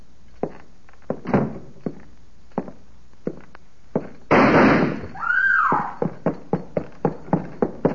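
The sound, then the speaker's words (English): A string of sharp gunshots fires in irregular bursts inside a house, as a man steps out of the parlor shooting the place to pieces. The shots are broken mid-way by a louder sustained crash with a whining ring, then a quicker volley of shots closes out. No one speaks. “He stepped out of the parlor right after I closed the door, shooting the place to pieces.”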